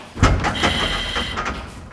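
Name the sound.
locked door being tried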